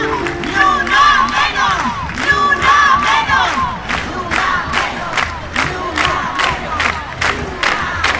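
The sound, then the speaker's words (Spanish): A large protest crowd against femicides and violence against women shouts a chant together, many voices rising and falling in a steady repeated rhythm, loud and continuous, with sharp rhythmic accents like clapping or drumbeats punctuating it. “Mismo día, mismo lugar, el mismo grito.”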